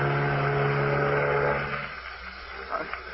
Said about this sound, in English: Well, for instance, sir, take that fog horn right now. Sounds almost human. And listen, the fog's so thick it seems to be answering itself.